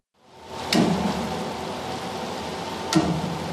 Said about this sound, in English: That's the popping sound of cables being pulled tight as they lift a 300-ton tugboat out of the water.